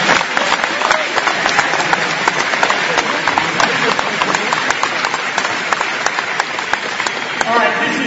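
A sustained burst of audience applause, many hands clapping densely and steadily for several seconds, loud, with a continuous crackling roar.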